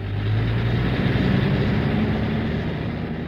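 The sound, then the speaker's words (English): An Atomic City Transit bus serving Los Alamos and White Rock approaches, its engine rumbling steadily with a low droning hum and broad road noise, holding a fairly constant loudness throughout, with no voices. “Oh, look! Here comes the bus now!”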